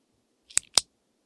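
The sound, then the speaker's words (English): A pen clicks twice in quick succession, two crisp, bright snaps about a fifth of a second apart, isolated in otherwise quiet. “This is clicking a pen.”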